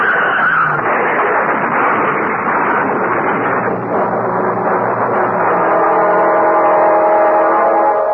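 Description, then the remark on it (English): Two cars skid on an icy, hail-covered road in midsummer, sliding into each other, with a loud, long, harsh tire screech and rushing noise that holds steady for several seconds, turning into a sustained whining squeal near the end. No one speaks. “On an icy road in midsummer, two cars slide into each other, something that usually happens only in midwinter.”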